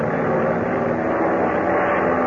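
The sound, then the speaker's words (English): A steady, droning airplane engine hums continuously as the plane climbs above a storm, at an even loudness, a broad low-to-mid roar with no breaks or changes in rhythm. “Listen, we're climbing.”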